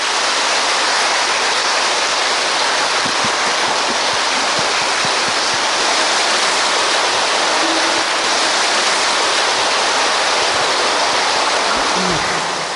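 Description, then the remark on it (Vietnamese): Dense, steady applause from a large crowd at the Trường Hà practice centre after a dharma talk, a loud continuous wash of clapping that barely varies in intensity across the whole stretch, with no voices standing out. “Và hôm nay tại đạo tràng Trường Hà chúng con thật là an vui, thật là an lạc, và những tràng phá tay thật giòn, thật nồng nhiệt khi được mà nghe tư giảng pháp truyền đạt những thực nghiệm cuộc sống cho toàn thể ni chúng Trường Hà,”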